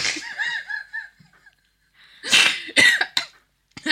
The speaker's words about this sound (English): No, it's a little bit of a cough. Just got a chesty cough.